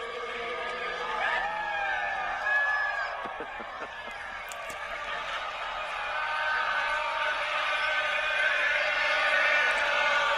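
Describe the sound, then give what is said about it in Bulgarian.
A huge crowd gathered in downtown Lawrence shouts and cheers Rock Chalk Jayhawk after Kansas beat Villanova. It is a steady, dense roar of many voices, with higher whoops rising and falling through it and the noise swelling louder toward the end. “Огромно количество хора, събрани в центъра на Лоренс, крещят и се радват, викат Рок Чок Джей Холк.”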